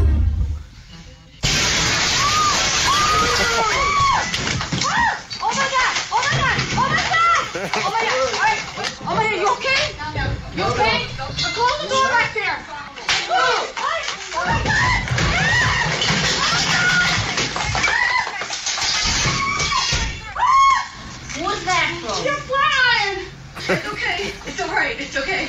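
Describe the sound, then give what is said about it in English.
Panicked screaming and frantic shouting from several people fill nearly half a minute of loud, chaotic commotion as a berserk deer runs into a New York hair salon and goes out through the window, with shrill cries rising and falling throughout. “So a deer has gone berserk. It's in a New York hairdressing salon. Done a smash and grab on a salon.”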